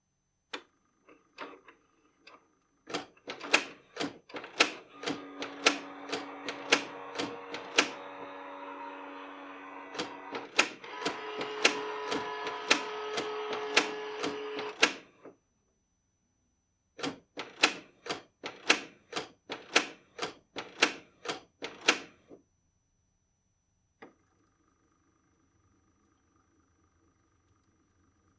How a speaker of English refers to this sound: Because, so I have a printer here that I haven't fired up in a long time, and I had to so I could scan in Finn's picture for the cover art. I'm going to play this for you, and tell me that this doesn't sound like some sort of haunted printer.